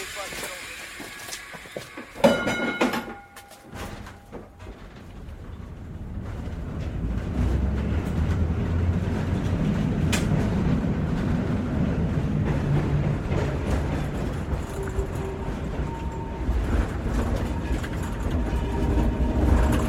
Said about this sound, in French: Prenons le tramway, John. Nous serons plus vite à Smolny.